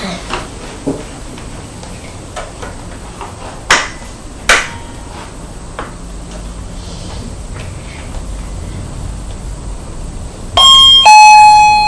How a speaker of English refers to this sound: If I just ring the bell once, you'll see what I mean. I'll go to the front door.